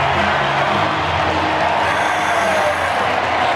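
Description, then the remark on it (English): The crowd at Wrigley Field roars and cheers after Matt Mervis's first big league base hit, an eighth-inning single into right center field, a loud, steady wash of voices and noise that holds at full volume for several seconds without letting up. “And Wrigley Field is roaring here for Matt Mervis.”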